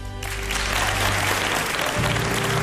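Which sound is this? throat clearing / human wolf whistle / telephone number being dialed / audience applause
audience applause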